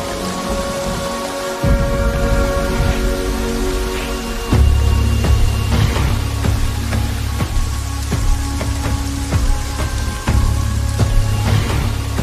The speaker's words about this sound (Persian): و بالاخره بارون بارید.